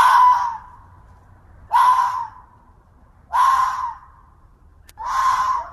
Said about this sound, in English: Sounds like a cat fox. Pretty darn close. It's a fox at the end of somebody's street.